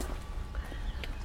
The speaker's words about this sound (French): le son là de des pierres sur l'aluminium, c'est magnifique ça, le son des cloches, le son du vent. Ça c'est très poétique